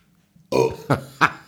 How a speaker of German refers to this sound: Okay. Also das ist schon so, das ist kein besonders eindrucksvoller Rülpser, aber es ist ein merkbarer. Das ist so ein Mittelding. Ja. Das ist nicht ganz, ganz schäbig, aber auch nicht so richtiger Kracher.